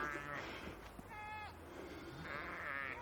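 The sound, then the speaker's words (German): Several sheep bleat in overlapping, wavering calls, one sharp high bleat standing out in the middle, with a steady low hum and a faint murmur of voices underneath. “Und das ist halt einfach so, man bewegt sich dann irgendwann auf eine bestimmte Art und Weise, die den Schafen halt nicht sehr viel Angst macht.”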